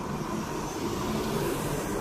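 vehicle, truck driving past

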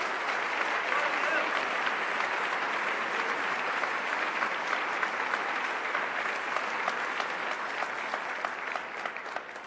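crowd, audience applause

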